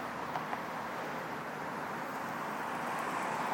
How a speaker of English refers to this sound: I believe that this street does go through. I think there's a car there wanting to make a left.